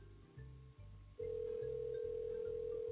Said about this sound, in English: It's just ringing. That's weird.